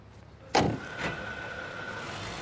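Bus doors open with a sharp, hissing burst followed by a softer second clunk, while the engine idles steadily underneath with a low rumble and faint whine. No one speaks. The bus runs to the Elfrid farm.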